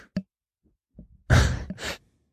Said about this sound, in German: Jetzt muss ich niesen.